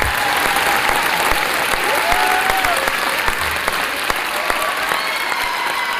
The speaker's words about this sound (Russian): Тут мы вставляем аплодисменты немножко. Да, да. Немножко такие грустные аплодисменты, да, да.